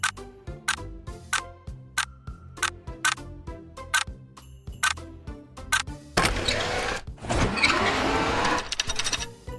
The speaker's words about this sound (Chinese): 听着时钟的指针，一分一秒滴滴答答的声音，小薇也渐渐入睡。